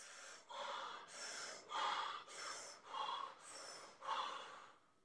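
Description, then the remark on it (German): Quick, deep breaths drawn in and pushed out through the mouth in the Wim Hof breathing technique, about eight even cycles in five seconds, fairly loud, with no talking. “Ja, Wim Hof-Technik, nur dass ihr es mal gehört habt, ist halt wirklich so häufig eher durch den Mund.”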